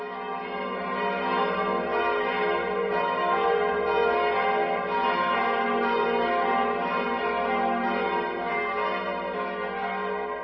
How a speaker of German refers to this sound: 3 Bronzeglocken wurden 1998 für die neue Kirche hergestellt, und zwar von der Karlsruher Glockengießerei. Und der Bildhauer Bernd Stöcker hat sie verziert.